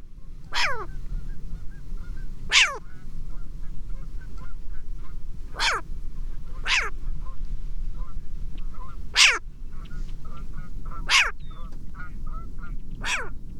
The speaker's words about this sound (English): Green Land Trust and New York State Department of Environmental Conservation and others are monitoring the populations of short-eared owls on the Coxsackie grasslands. This particular recording was made by Garrett Vinn.